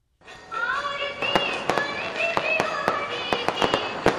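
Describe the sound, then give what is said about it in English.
Firecrackers pop in a rapid, irregular string of sharp bangs, loud, over a steady bed of tonal music or chanting that keeps going beneath the explosions, as the Indian holiday of Diwali begins in New Delhi, India. “Music and fireworks kick off the Indian holiday of Diwali, a five-day celebration when Indians shower each other with gifts.”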